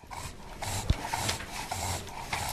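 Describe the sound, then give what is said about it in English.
An English bulldog named Otis, the local library dog at the Ypsilanti District Library, snorts and snuffles in a quick run of wet, raspy snorts mixed with heavy breathing, fairly loud and continuous with no voices. “Stateside's Nick Wallace went down to the Ypsilanti District Library to meet the local library dog, an English bulldog named Otis.”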